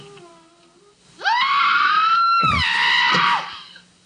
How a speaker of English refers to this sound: That was her exact scream from earlier.